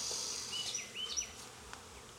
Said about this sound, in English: I'm not putting any workers in with these bees.